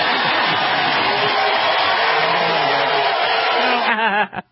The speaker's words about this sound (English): You gotta love that applause. Rock star applause.